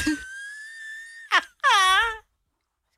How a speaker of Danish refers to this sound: at du kan sætte os på ventemusik? Jeg elsker det.